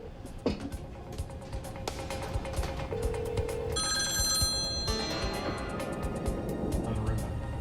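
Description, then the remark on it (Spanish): A telephone rings in a single bright, trilling burst as a negotiator places a call to try to reach the people inside, heard against a steady murky background of low rumble and faint indistinct voices. “Un negociador aseguró una línea e intentó contactarlos por teléfono.”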